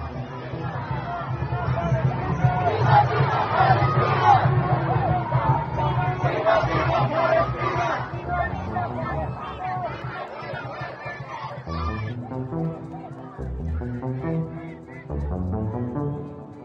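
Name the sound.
protest crowd yelling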